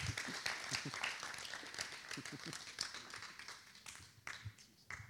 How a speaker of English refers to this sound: So how about we give a big round of applause to Pastor Stuart as he comes to share with us this morning.